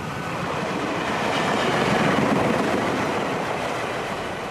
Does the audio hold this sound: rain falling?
no